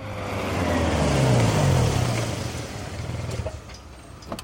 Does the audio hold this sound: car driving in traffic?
yes